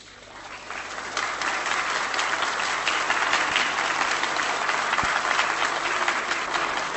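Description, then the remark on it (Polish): Sustained applause backing a proposed lustration resolution on officials who collaborated with the Security Service, a dense, steady clatter of many hands clapping that swells in the first second and holds at an even, loud level without pause. “Sądząc z oklasków, nie muszę tego uzasadniać.”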